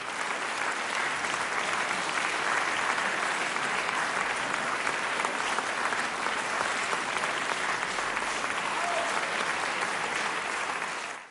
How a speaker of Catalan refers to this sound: Cada dia un aplaudiment a Ràdio Estel. Avui, com a homenatge als metges, infermers i infermeres que han treballat tant contra el virus i per tenir cura de tantes i tantes persones. El nostre aplaudiment per vosaltres.